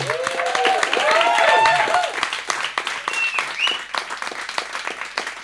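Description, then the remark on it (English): An audience applauds after a live band performance broadcast on radio station KUTX, dense steady clapping with shrill whistles and cheers early on, then the clapping thins out and gradually fades. “Give it up one more time for”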